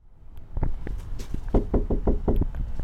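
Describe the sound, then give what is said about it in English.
A series of firm knocks on a wooden apartment door in an income-restricted apartment complex in Douglas, Wyoming, several quick raps in loose groups, fairly loud, with no voices. “I knock on the door of an apartment in the one and only income-restricted apartment complex in Douglas.”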